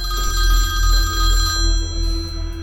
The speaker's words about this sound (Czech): A pak mi uprostřed noci zazvonil telefon.